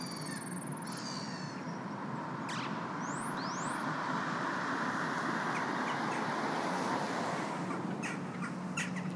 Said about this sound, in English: I stop there to listen to ducks and birds fighting and singing.